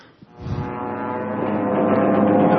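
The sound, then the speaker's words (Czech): A steady aircraft engine drone builds over the first half-second, then holds as a loud, broad roar with a constant low hum and a slowly rising pitch. No voices are heard. “Letadla. V letadle? Jaký letadla? Ano, já si myslím, že to je správná odpověď.”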